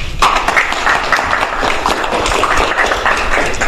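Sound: audience applause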